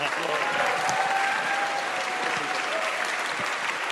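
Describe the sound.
Steady, dense applause from an audience fills the whole stretch, a continuous wash of clapping at even loudness with faint cheers or voices mixed in.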